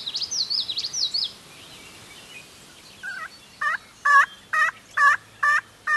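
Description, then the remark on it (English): A hunter's turkey call yelps in a steady series of about seven sharp, evenly spaced notes, loud, to attract wild turkeys in the early morning, after a brief warble of songbird chatter at the start. “teases and coaxes, but on this morning there's no response. Turkeys are one of the hardest game birds, tricky and coy.”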